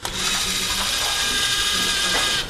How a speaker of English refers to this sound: With her father's help, she used the resources at Club 125 to make a robot in the shape of an elephant. We wanted to make it move.